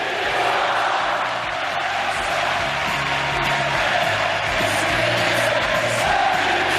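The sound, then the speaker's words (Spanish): A large crowd at the Ramón Sánchez Pizjuán stadium chants "Mendy, quédate" in unison for Sevilla coach Mendilibar, a rhythmic sung chorus rising over a steady roar of cheering and shouts that stays loud and dense throughout. “Gritos de Mendy, quédate, Mendy, quédate.”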